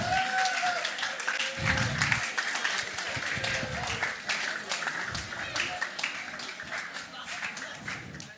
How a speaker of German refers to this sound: Und würdet ihr mal ganz kurz an diesem Vorhang vorbeigehen und einmal kurz euch hier auf die Bühne stellen? Könnt ihr das mal einmal ganz kurz für mich tun? Es wird nichts passieren. Aber gebt den Leuten mal einen richtig fetten Applaus.